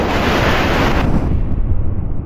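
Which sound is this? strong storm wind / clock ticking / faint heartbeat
strong storm wind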